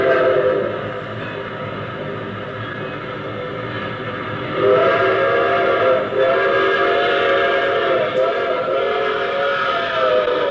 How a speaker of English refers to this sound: Now, here's the opening, the very first sound, if you remember, the train approaching. Remember that one? I sure do.